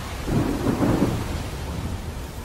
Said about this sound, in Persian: امروز طوفان فوق‌العاده شدیدی به خشکی نزدیک میشه، ولی به خاطر برنامه ریزی قبلی جشن همچنان برگزار میشه.